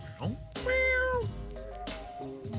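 A cat meows loudly, two drawn-out, wavering calls one after another with a brief pause between them.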